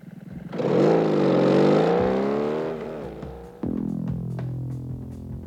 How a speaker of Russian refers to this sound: Мотоцикл где? За углом. Заводи, поехали.